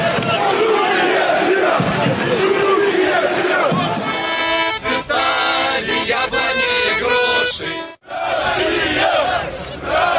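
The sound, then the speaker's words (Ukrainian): Polish and Russian football fans trade insults, shouting and chanting loudly and continuously. The Polish fans shout "Russians go home" and the Russians chant "Russia forward". The voices blend into a roaring, rhythmic clamor with brief dips before the noise surges again. “Польські завзятори кричали «Російці домов», у той час як російці гучно скандували «Росія наперед».”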